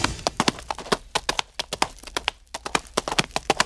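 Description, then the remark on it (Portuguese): Hooves clip-clop in a quick, uneven rhythm as two horses, ridden by a bride and groom, cross the Serra do Rola Moça, with many sharp clacks overlapping at a moderate level and no talking over them. “E atravessaram a serra, o noivo com a noiva dele, cada qual no seu cavalo.”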